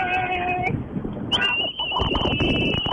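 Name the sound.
whistles blown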